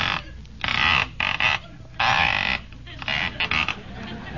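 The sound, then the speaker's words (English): A rotary telephone dial is turned over and over, each spin giving a loud, raspy ratcheting whirr in short bursts of uneven length, with brief quiet gaps between them. “Certainly a noisy dial in there, ain't it?”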